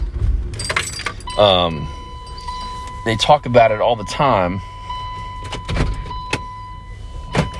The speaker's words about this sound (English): Excuse me, I'm starting my car, so if you hear the engine going.